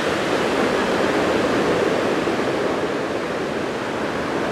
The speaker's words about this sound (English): I don't know how high this is exactly, but a little mini waterfall, like half the size of the ones by the hotel. But again, it's just the little one, the bonus.